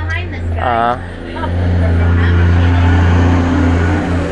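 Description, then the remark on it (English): A heavy water truck rumbles past, sprinkling water on the road to keep the dust down, its deep engine drone loud and steady for several seconds, with a brief voice heard near the start. “That was a water truck that came by. They sprinkled down the water on the road to keep the dust down.”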